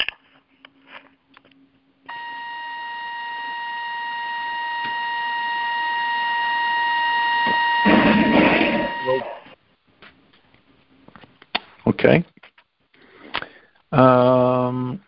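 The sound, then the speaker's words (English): A phone emits a steady, high-pitched electronic squeal that holds for about seven seconds and slowly grows louder, with brief bits of talk around it and a short buzzy tone near the end. “Somebody's phone is squealing.”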